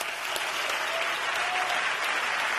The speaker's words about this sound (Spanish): Y un merecidísimo aplauso de mucho tiempo.